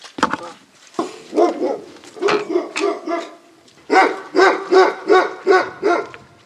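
A dog barks over and over in quick, regular bursts, loud, with a short pause before a steady run of sharp, evenly spaced barks.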